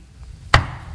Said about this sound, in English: I'm going to keep knocking till I get what I want.